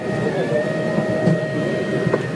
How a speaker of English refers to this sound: Any guesses? Not a robot, per se. Not a new tablet or a self-parking BMW. It's a recording of a 3D printer. Old news, you say? No way, man. Printers from XYZ Printing make cookies.